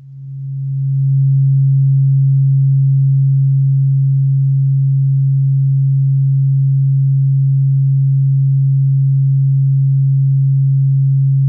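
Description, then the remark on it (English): A steady, low tuning fork tone hums on one pure pitch, swelling up over the first second and then holding evenly and loudly with no talk. “And this is the tuning forks that Accutonics tunes their main tuning fork too.”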